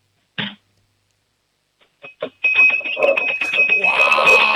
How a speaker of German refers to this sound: Na dann, hätte ich gesagt, du laufst jetzt mal in die Küche, sagst zu Mama, wir brauchen ein Trinkglas und einen Löffel und dann machen wir mal ein bisschen Lärm, wir zwei Hübschen, hätte ich gesagt, oder?